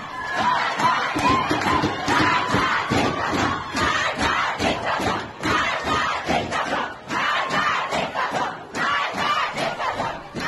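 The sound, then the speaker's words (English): A large protest crowd of women and men chants "Death to the dictator" in loud, rhythmic unison, voices surging together in repeated bursts with brief dips between phrases, at protests held in solidarity with Amini. “The crowds, which include men, have been heard chanting, "Death to the dictator."”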